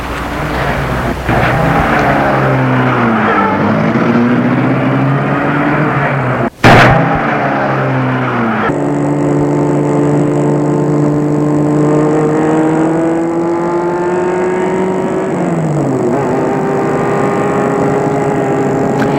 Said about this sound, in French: Vite, Gilbert va à sa voiture qui est garée dans la cour. Du parc dans sa voiture en vitesse. La voiture s'apprête à sortir de la cour. Gilbert met tout de suite la voiture en marche.